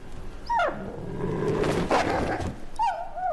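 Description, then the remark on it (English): The wolf Ghost, angry, growls and snarls in a rough, rasping burst lasting a couple of seconds, framed by high whining cries at the start and end. No one speaks. “Yeah, do wolves really make that sound?”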